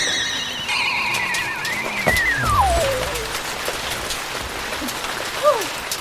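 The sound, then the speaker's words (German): Heavy rain pours down in a steady, dense hiss, heard from under a bus shelter, while a whistling tone glides downward through it and a few brief chirps and rumbles rise over the downpour. “Irre, wie das schüttet.”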